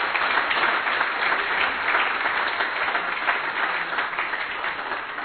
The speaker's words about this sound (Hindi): तो जोरदार तालियों के साथ संजीव भाई का।